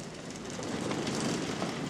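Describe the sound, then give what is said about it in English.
A new sliding door at an elevated home on Fielder Avenue rolls open with a steady, broad rumbling scrape lasting about two seconds. Its low rattle and hiss stay fairly even in loudness, and no one speaks. “We got a new sliding door.”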